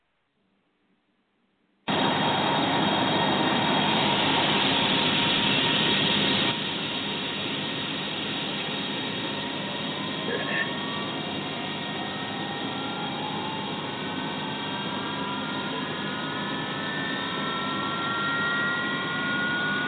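After a brief silence, the engine of an Eastern airplane suddenly roars to life, loud, settling into a steady drone while rising whining tones climb as it spools up.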